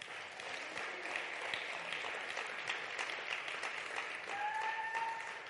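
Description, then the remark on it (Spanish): An audience applauds the King steadily, a dense wash of clapping that holds for several seconds, with a faint whistle-like tone rising near the end. “Dar un aplauso al Rey.”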